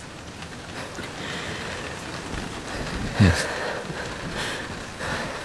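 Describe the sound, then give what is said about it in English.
Heavy rain from a storm pours down in a steady, dense hiss, with one low rumbling thump partway through and a single brief spoken word near the start. “In my excitement, I did not see that storm for what it was.”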